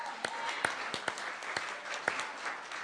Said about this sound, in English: But I just want to have one more round of applause for all the work that these folks did.